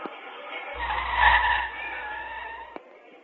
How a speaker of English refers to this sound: Now, I want you to listen to this. This is not a man that's running from the scene. This is simply the sound of the tires spinning. I hit some water or some oil.